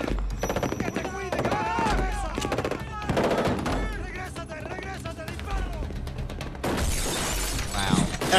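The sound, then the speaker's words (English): Shotgun gunfire in a film scene, a shotgun fired through the back of a car: loud, repeated blasts crack out in rapid succession amid shouting voices, with a harsh burst of shattering noise near the end. “Shotgun through the back of the car.”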